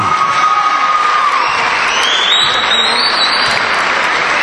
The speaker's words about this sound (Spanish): Vamos a darle una ovación fuerte al dorsal número 7,